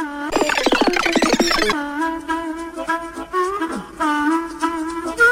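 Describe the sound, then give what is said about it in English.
A television theme tune played in reverse: a burst of rapid clattering attacks opens it, then sustained melodic notes swell, waver and slide unnaturally, with no voices. “Round number 4, television theme tunes played backwards.”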